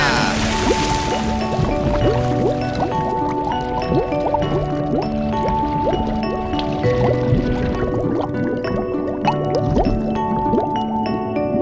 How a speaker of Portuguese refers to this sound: Agora sim, caindo na água no 3. 1, 2, 3 e já!